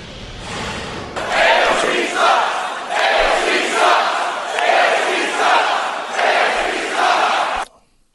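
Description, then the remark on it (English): A large crowd at a campaign-style rally for Donald Trump, where Donald Trump Jr. appeared, chants Alexandria Ocasio-Cortez's initials in loud unison, the short phrase repeating in a steady rhythm roughly every second before cutting off abruptly. “They are chanting her initials.”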